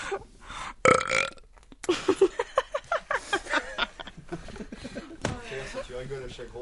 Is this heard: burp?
yes